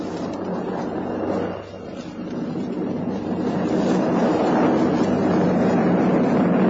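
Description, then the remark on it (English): Donald Campbell's racing boat Bluebird roars across the water at high speed, setting a new water speed mark of 249 miles per hour. Its engine is a loud, steady drone under a hiss of rushing spray that swells slightly toward the end. No one speaks. “Another sporting event was a new water speed mark of 249 miles per hour, established by Donald Campbell.”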